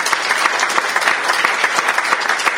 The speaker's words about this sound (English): And by the way, can we get the front porch round of applause for being here with us today?